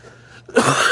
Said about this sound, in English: I apologize for my coughing.